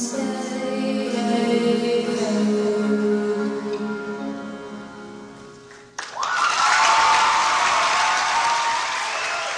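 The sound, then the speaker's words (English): High school student performers at a variety show hold sustained harmonized singing for about six seconds, then it cuts off as a loud burst of crowd applause and cheering erupts and continues steadily to the end. “Listen to the crowd.”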